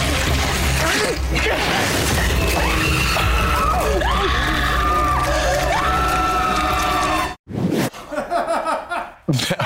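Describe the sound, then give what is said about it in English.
Loud, overlapping screams rise and slide in pitch over a dense, chaotic din for several seconds, then cut off abruptly, followed by a few shorter noisy bursts. “I just had to hear the screams and I knew.”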